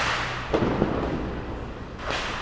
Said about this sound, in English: The fiesta's tomorrow. And everybody is chucking bangers around. Five-year-old kids, their parents were queuing up earlier today to buy them their bangers. There's a gang of buffoons here with the most ridiculous number of fireworks going off.